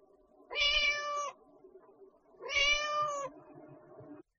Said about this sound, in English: A cat.